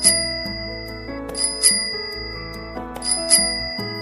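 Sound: tricycle bell ringing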